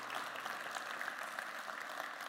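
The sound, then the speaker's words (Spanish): An audience breaks into steady, dense applause, many hands clapping together in a sustained wash of sound that fills the room without pause, with no voices standing out. “Si usted lo cree, regálele un fuerte aplauso si ha sido redimido por la sangre poderosa del Dios Todopoderoso.”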